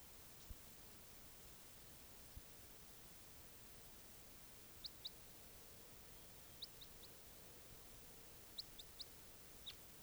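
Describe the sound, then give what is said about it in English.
Faint, high bird chirps come in brief clusters of two or three, scattered across a steady hiss of background noise, with no one talking. “Test it again, both birds.”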